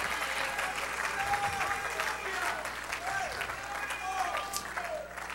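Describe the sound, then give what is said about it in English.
An audience praising God claps steadily throughout, a dense wash of applause mixed with scattered shouts and raised voices, loud and continuous with no pauses. “Go ahead and lift up a shout. Clap your hands.”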